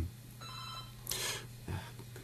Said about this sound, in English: I'm just going to put that off because I don't have anyone to answer my phone.